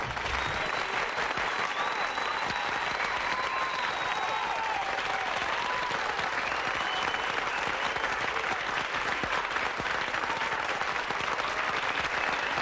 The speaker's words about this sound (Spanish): Vale, no ho havia fet mai, però vaig a fer-ho. Silencio! Vaig a ficar-li aplausos a Néstor, me cago en la mà.